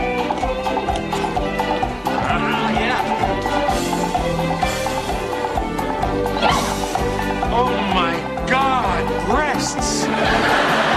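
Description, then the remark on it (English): Performers in the Lido de Chavot show at the Appaloosa Lounge imitate horse neighs and whinnies, with wavering rising-and-falling cries that come through a loud, busy musical accompaniment playing throughout. “These are supposed to be horses, huh, Coach?”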